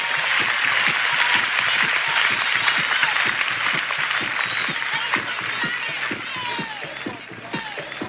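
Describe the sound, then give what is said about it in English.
A crowd applauds steadily for about eight seconds, dense overlapping claps at a loud, even level with a few whistles or shouts rising through the noise before it slightly tapers at the end. “big round of applause.”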